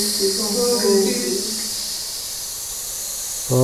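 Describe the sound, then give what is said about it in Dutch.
A steady, bright hiss runs through the whole clip. A voice hums a few sustained tones over it at the start and again briefly at the end. “Zing even mee tot enkel gesis te horen is.”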